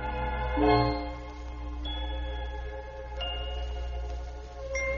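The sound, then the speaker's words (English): Small bells of the percussion family are struck four times at a slow, even pace. Each bright, clear tone rings on and overlaps the next, above a steady low hum, with no talking. “Even the little bells are struck like this.”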